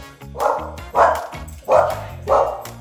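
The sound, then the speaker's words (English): A dog barks four times in a steady rhythm, each bark loud with a brief pause between them, on the coast, and no talking over it. “We've got our three dogs with us too, so there's a chance they may make an appearance as well.”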